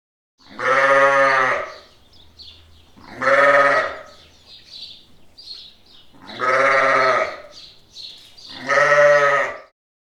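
A sheep bleats four times in long, wavering calls spaced a couple of seconds apart, loud, with faint bird chirps filling the quiet gaps between them.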